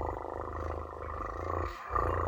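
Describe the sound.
A voice imitates a cat's purr: a steady, low, rumbling vibration with a fast fluttering pulse, briefly breaking off near the end before resuming, with no speech.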